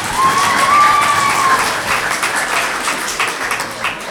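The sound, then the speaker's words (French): An audience applauds students of the collège La Fontaine with dense, steady clapping throughout, accompanied by a brief whistle rising and falling near the start, the applause gradually thinning toward the end. “Et pour terminer cette épreuve du gueuloir, je vous demande d'applaudir les élèves du collège La Fontaine.”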